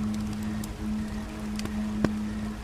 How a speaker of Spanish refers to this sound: Y el sonido de una corriente de agua también se manifiesta en tu atención auditiva. Parece ser que algún río cercano debe pasar por aquí.